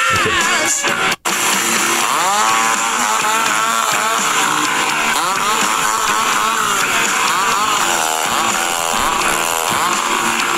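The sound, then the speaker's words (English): A loud chainsaw is played as an instrument in a song, revving in rising and falling pitch swoops like a melody over a dense, buzzing musical backdrop, continuous apart from a brief cutout near the start. “So he's playing the chainsaw underneath this.”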